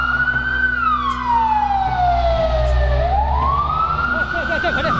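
A loud fire engine siren wails, its pitch sweeping down slowly and rising again over a heavy low engine rumble, with no voices, as a Qingchang town government full-time fire brigade engine rushes into Qingchang Tunnel toward a fire deep inside.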